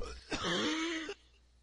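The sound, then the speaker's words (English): A single harsh cough bursts out and turns straight into a strained, drawn-out groan of pain lasting about a second, fairly loud, then quiet. “It's one of those coughs where you cough and it sends pains through your whole fucking body.”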